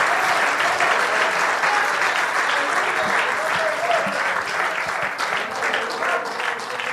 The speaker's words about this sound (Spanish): Es más, démele un aplauso ahora mismo. ¡Aleluya!